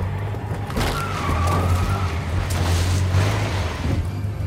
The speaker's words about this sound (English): Almost there. The truck can't take much more, man.